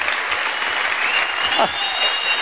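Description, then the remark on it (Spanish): An audience applauds for the grace of God in a steady, dense wash of clapping that holds at an even, loud level throughout, with a brief vocal cry rising and falling through the middle. “Pónganse de pie, denle el mayor aplauso de la historia, el mayor aplauso por la gracia.”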